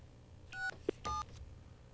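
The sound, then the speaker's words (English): Two short telephone keypad dialing tones beep in quick succession, separated by a small click, loud against a low background hum, with no one speaking. “Okay, let's see. It's ringing.”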